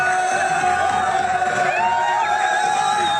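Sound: crowd cheering in celebration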